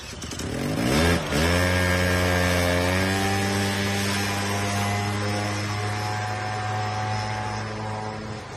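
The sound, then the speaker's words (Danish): A moped engine buzzes loudly, revving briefly before settling into a steady, droning run that continues throughout with no voices. “Og det blev på knallert.”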